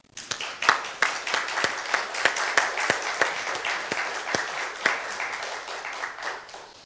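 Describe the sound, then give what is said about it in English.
A crowd applauds steadily for military service members being thanked for their service, many hands clapping at once in a dense, sustained patter with a few sharper individual claps standing out, holding level for several seconds before easing slightly at the end. “I think it's appropriate to give them a round of applause.”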